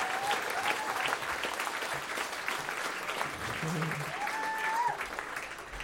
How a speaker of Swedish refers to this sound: Ja, en till applåd för ….